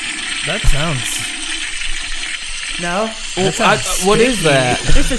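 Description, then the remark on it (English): A toilet flushes, a steady rush of water running for several seconds while voice-like rising and falling tones sweep over it. “It's a toilet. A stinky toilet.”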